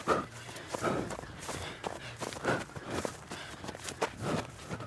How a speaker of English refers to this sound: See, it's all breathing and feet. They all go together. And if you're smooth, you're smoothing your gait, smoothing your run.